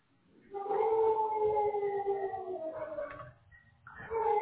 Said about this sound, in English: dog is going crazy. I can't hear you.